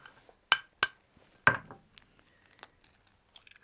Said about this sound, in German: Ich gebe dir mal hier eine kleine Pfanne. Mhm. Magst du einfach das Ei schon mal aufschlagen?